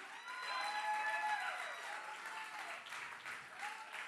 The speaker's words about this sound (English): Let's all stand to our feet and clap our hands unto the Lord right now.